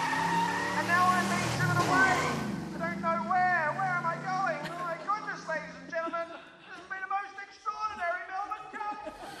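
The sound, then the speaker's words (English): A car roars off loudly, its engine revving hard, followed by a series of high, wavering tire squeals and skids that gradually grow fainter as it pulls away. “I'm putting my hands up and getting into the back of a car.”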